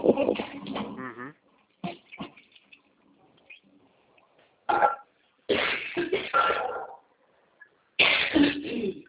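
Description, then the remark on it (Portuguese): Harsh, raspy coughing from someone having an allergy attack in cold weather, several separate bouts with short quiet pauses between them, some bursts drawn out and throaty, others quick and sharp. “Aqui tá muito frio, eu tô numa crise alérgica. Tosse.”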